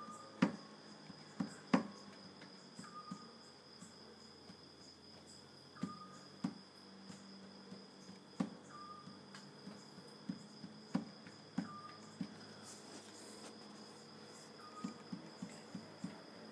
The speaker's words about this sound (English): It stopped. And it changed. That is not an alarm. It's a bird. Again, stopped.